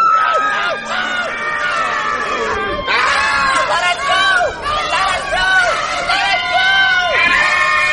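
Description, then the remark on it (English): A crowd of children screams and shrieks at once at someone in a Foxy costume who wants a hug, high-pitched overlapping voices rising and falling without pause, loud, with a constant chaotic babble underneath. “They just wouldn't stop screaming!”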